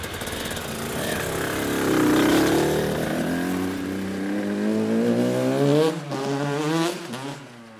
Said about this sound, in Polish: Przyjechaliśmy na krosowisko. To nie jest typowe krosowisko, jest miejsce, gdzie można pojeździć sobie motocyklem terenowym, tak bym to nazwał.